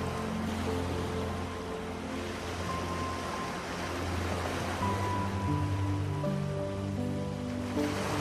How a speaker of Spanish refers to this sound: La arena suave se extiende por toda una playa tropical, juntándose con las olas del mar que van y vienen en la orilla. Creando un suave ritmo, casi tan suave como tu respiración.